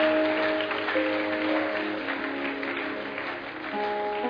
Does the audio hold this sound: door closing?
no